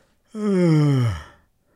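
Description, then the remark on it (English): A single long human yawn, voiced, made during a phone call, its pitch sliding steadily downward over about a second before trailing off into breathy quiet. “I don't want to make it sound phony, but I'm really going to yawn.”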